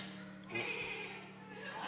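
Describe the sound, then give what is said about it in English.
A person imitates a horse's whinny, a short, wavering high-pitched vocal squeal that rises and trails off over about a second, with a faint hum beneath. “Who can whinny like a horse? Let's hear it.”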